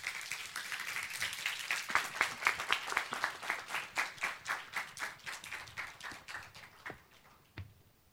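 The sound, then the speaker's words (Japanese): An audience applauds steadily to welcome a guest preacher to the pulpit, a dense wash of clapping that grows into distinct rhythmic claps, then thins and fades out, ending with one last sharp clap. “拍手を持ってお迎えしましょう。”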